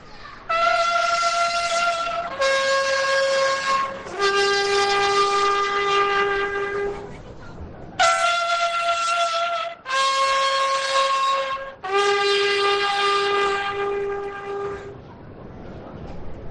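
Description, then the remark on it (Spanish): Chía horns with the procession of the Hermandad de la Soledad de San Jerónimo on Calle Alóndiga sound a loud fanfare: two identical phrases of three sustained, brassy notes, each phrase stepping downward in pitch and ending on a long, held low note, with no talking over it. “Van a sonar esas fanfarrias de las chías.”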